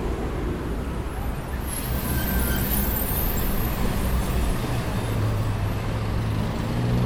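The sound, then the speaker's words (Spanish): Dense, steady street traffic roars at the intersection of Cabildo and Juramento on a Tuesday at 6 pm, at about 73 to 74 decibels, with buses and other heavy vehicles rumbling through; a brief high hiss rises near the start amid the constant low engine noise. “Llegando a Cabildo y Juramento. Ya hay más ruidos, una moto de 87 decibeles, música fuerte y muchos colectivos.”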